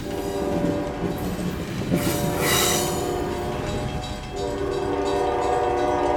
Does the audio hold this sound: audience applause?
no